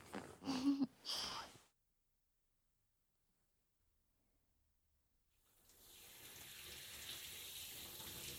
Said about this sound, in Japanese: どう？気持ちいい？パジャマでシャワー浴びるの初めてだから、なんか変な気持ち。